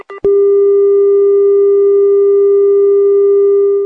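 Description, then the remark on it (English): A couple of quick clicks and blips give way to a loud, steady, mid-pitched telephone line tone as line two is lost, holding unbroken for several seconds, with no voices. “Well, we seem to have lost line two.”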